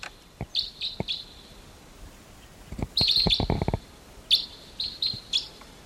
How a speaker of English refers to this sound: early morning of August 16th, and there's a wild type 2 crossbill coming in. Wild. In flight. Bird flew right over. Wild bird coming in, morning of August 16th.